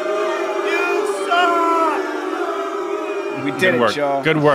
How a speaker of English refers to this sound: how about instead of thunderous applause, …, you just do thunderous booing?